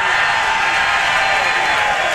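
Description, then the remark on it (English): A loud, dense wash of crowd noise, an audience cheering and applauding together as former Channel 4 anchor Mark Rosen is introduced, with steady clapping and shouts filling the whole moment without a break. “Make the loudest noise possible for former Channel 4 anchor Mark Rosen, everybody!”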